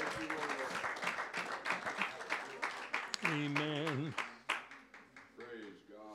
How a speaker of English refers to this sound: Clap your hands to the Lord as you're seated in Jesus' name.